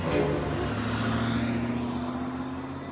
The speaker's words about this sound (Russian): Сел в машину и уехал.